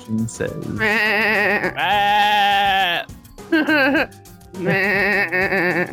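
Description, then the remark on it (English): A loud series of sheep bleats, four wavering, quavering cries in quick succession, each lasting around a second with brief pauses between them and no talking. “Dude, if I could get a wand that would shoot out sheep, that would be awesome.”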